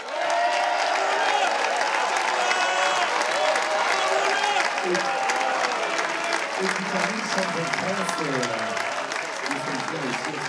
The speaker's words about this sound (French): Et un grand merci, bien sûr, à la classe mini et aux 90 skippers de cette édition 2023. Vous pouvez vous applaudir et on peut les applaudir.